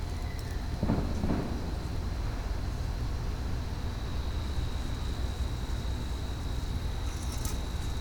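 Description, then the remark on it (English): One of a pair of fireworks fired together bursts with a single deep, booming report early on, its rumble fading into a steady wash of outdoor noise with a thin, constant high whine. “Oh, we only got one report out of that pair.”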